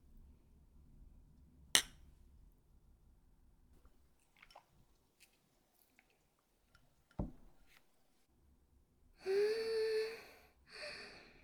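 Glasses of beer and chu-hi clink together in a toast with a bright, ringing chime that lingers for a moment, preceded by a couple of sharp isolated taps.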